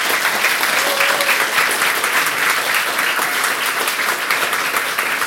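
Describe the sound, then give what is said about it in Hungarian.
An audience applauds guest Bálint Ruff steadily for about five seconds, a dense, even crackle of many hands clapping at once, loud and sustained without voices over it. “Ruf Bálint, nagyon szépen köszönöm, hogy a rendelkezésünkre állt, és köszönjük, hogy itt voltál velünk ma, és szeretnék én egy tapsot a Bálintnak.”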